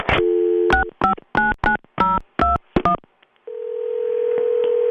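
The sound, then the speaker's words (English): A phone line's tone gives way to a quick run of about eight touch-tone beeps as a mother's number is dialed, followed by a steady, humming line tone waiting for the call to connect. “Come on, Ma. Answer the phone.”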